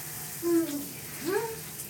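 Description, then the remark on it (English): Shower water runs in a steady hiss throughout, with two brief wordless vocal sounds, like soft hums, rising over it. “The feeling of the water just raining down, hitting my skin.”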